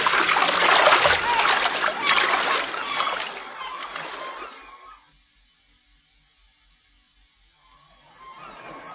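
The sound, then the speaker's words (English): Loud splashing from people swimming churns steadily for several seconds, then fades away into near silence before a softer wash of water returns at the end. “Let's swim about a bit and then get dressed and discuss it.”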